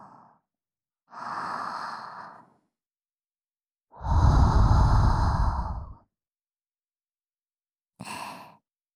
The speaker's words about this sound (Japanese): まずはさっきほぐした耳にふーってしますね。いいですか？いきますよ。